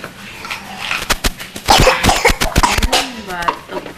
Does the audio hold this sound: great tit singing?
no